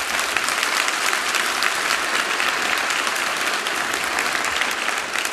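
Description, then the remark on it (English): An audience breaks into sustained applause, a dense, steady clatter of many hands clapping at an even loudness throughout, with no speech over it. “Look, that applause goes to the Lord who is the source of this.”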